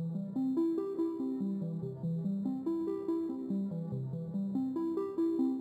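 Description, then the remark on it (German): A synthesizer plays a continuous run of bright, buzzy notes that step up and down in pitch in a steady rhythm, fairly loud, with no voices over it. “Dann ein vom Synthesizer. Ein Ton, der klingt so.”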